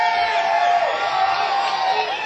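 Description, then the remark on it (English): A large crowd screams and cheers at a concert at a mountain music gathering in the Poconos, a dense, sustained roar of high-pitched shrieks and whoops that stays loud and steady throughout. “and be you sure this one is being recorded, so you might hear your own scream on a CD a year from now.”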